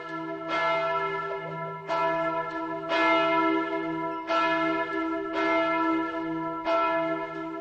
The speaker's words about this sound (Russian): Значит, колокола звонят для людей, которые им не нужны. Мне жаль, теряется контакт, взаимосвязь между человеком и колоколом.